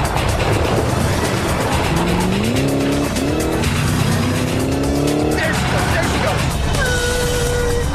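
Car engines rev hard with rising pitch over a constant loud roar, followed by a high squeal of skidding tires near the end, like vehicles in a fast pursuit.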